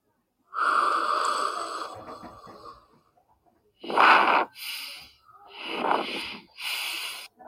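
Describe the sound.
A voice imitates a wolf blowing hard on a house of straw: one long, loud, breathy huff, then several shorter forceful puffs in quick succession, with no other sounds.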